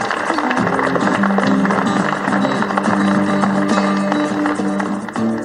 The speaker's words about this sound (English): So if I could, join me in a round of applause for all of you.